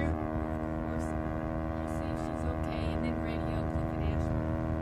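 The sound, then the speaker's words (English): An airplane diving toward the water roars loud, its engine a dense, steady droning growl with buzzing overtones that holds unbroken for the whole few seconds, with no talking over it. “the sound of the diving plane has revived the unconscious Clyde”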